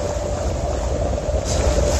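A steady, roaring rush of water as ocean waves breach the seawall on Charleston's Battery, South Carolina, during Hurricane Irma, with heavy low rumble and hiss that swells slightly louder toward the end. No voices.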